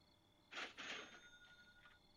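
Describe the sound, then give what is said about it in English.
A phone's bank deposit alert tone: a bright electronic chime bursts out twice in quick succession, then thin ringing tones linger and fade. It plays alone with no talking, fairly quiet. “My phone. Never heard it do that before. That's because it's a deposit alert from your bank.”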